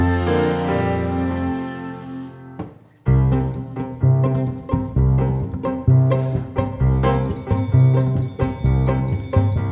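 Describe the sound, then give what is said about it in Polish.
An alarm clock rings in bright, metallic bell tones over a steady rhythmic musical backing, with a higher shimmering ring joining toward the end. No one speaks. “A budzik to jest taki mały ludzik, co pomaga budzić ludzi, bez ociągania się tym trudzi.”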